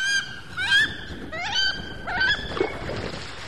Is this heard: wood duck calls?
yes